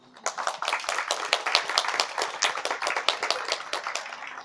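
An audience applauds with steady, dense clapping, many hands at once forming a continuous crackling texture at moderate loudness for several seconds, with no talking.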